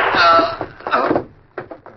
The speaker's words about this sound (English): There you got him. Someone may have heard that shot.